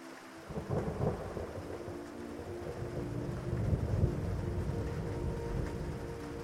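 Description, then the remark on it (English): A steady, broad wash of rain at sea with deep rumbling thunder rolling continuously underneath and lightning striking the water, fairly loud, with no voices present. “And when the lightning strikes the water around you, you are grateful that it didn't strike your boat directly.”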